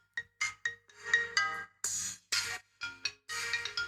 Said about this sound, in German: Das ist aber der Klingelton, der gehört aber nicht dahin. Das ist aber der Mix. Der iPhone-Mix-Klingelton. Der iPhone-Klingelton, ja.